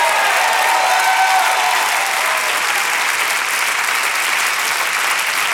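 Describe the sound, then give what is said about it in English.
An audience claps hands in sustained, dense applause, steady and loud throughout with no clear rhythm, a faint murmur of voices mixed in. “You should clap your hands like that's what's going to happen to you.”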